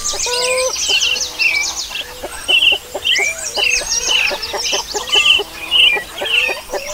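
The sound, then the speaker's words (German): A flock of chickens clucks steadily in Eritrea at 6 in the morning, short repeated calls overlapping with busy higher chirps throughout, with no one speaking. “Um 6 Uhr hört man die Hühner, um 12 Uhr auch.”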